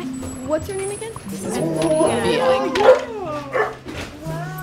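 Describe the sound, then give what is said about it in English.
Dogs bark and whine excitedly at the door of a small two-story house on a spring day, in short, overlapping bursts, with high rising whimpers in the middle, loud, while people talk faintly underneath. “The dogs are coming.”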